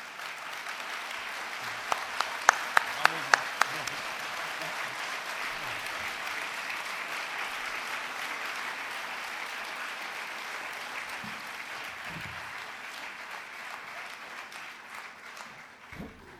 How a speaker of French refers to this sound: Applaudissez parce que je m'arrête, hein. Par soulagement.